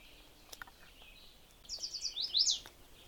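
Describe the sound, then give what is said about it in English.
A chestnut-sided warbler, a small warbler with a yellow crown and chestnut sides, sings a quick series of high, sweet notes ending in an emphatic accented flourish, on a trail in brushy habitat near a house where it nests, clear against a quiet outdoor background with no voices. “Actually, the first bird I hear before I've even gone very far is a chestnut-sided warbler.”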